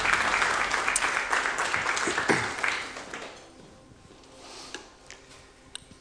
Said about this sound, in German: Vielen Dank an das Lobpreisteam. Richtig gut, dass ihr uns mitgenommen habt. Gebt ihnen mal einen Applaus.